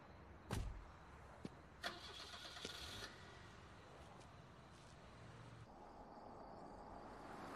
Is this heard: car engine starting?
yes